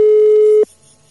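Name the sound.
telephone ringback tone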